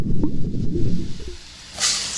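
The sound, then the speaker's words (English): A low, murmuring rumble gives way near the end to a sudden bright, steady sizzle, like an egg frying in a hot pan, loud and hissy for the last half second. “Frying an egg.”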